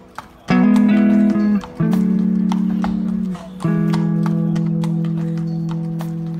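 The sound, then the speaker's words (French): A horse's hooves clip-clop in a steady, even rhythm at a walking pace as a rider crosses a city on horseback, with sustained low musical tones droning underneath throughout. “Cette traversée à cheval, je pense qu'elle est, elle est magique.”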